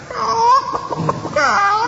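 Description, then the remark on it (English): A human voice imitates a hen's cackle after laying: warbling, high-pitched clucks in two bursts with a short choppy break between, fairly loud. “the giant put the golden egg in a jar and return the yellow hen to its slatted box”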